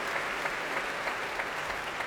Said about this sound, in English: Keith Lockhart bringing the Music Concert Orchestra to their feet to take the applause from the crowd.